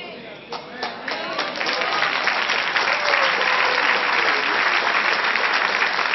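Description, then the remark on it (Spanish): A church audience breaks into applause for the Lord: a few scattered claps quickly swell into dense, steady, loud clapping that holds to the end, with faint voices mixed underneath. “Dele aplauso al Señor.”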